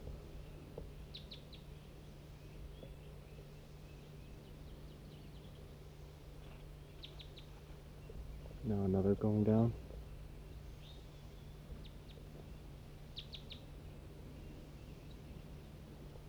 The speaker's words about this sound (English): A few more just joined. There must be a whole big flock in this tree right above me. And there's a lone bird sitting looking at me.